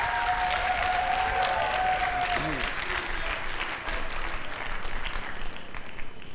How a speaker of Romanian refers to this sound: Aplaudeați actorii noștri, sunt niște actori minunați.